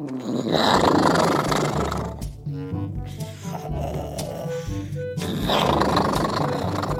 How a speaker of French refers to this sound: Elliot s'était endormi dans le sac. Petit problème, il ronflait. Et je ne sais pas si vous avez déjà entendu un dinosaure qui ronfle, mais disons qu'il ronfle fort, très, très fort.